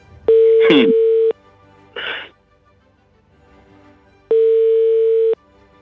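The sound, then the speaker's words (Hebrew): A phone line's ringback tone sounds twice on a call to the mobile phone of Knesset member Rabbi Guetta, each steady electronic beep lasting about a second with a long silent gap between, and nobody picks up. A couple of short breathy noises come early on. “לא, הוא לא עונה עכשיו. ננסה עוד פלאפון שלו, הוא לא עונה.”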